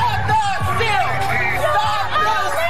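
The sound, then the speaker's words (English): A dense, largely maskless street crowd of thousands of Trump supporters rallying in Washington, D.C. roars continuously, with overlapping shouts, whoops and chanting voices ("This isn't over") swelling and blending into a loud, sustained wash of cheering. “thousands of his supporters this weekend flooded the streets of the Capitol”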